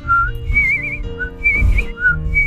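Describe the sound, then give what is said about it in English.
A person whistles a bright, warbling bird song in several short trilling phrases that rise and dip, played over a steady low musical backing. “But she kept on flitting about, doing her best to sing a happy song.”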